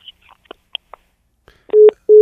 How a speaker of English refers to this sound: Yeah. Oh, my God. He just hung up on us.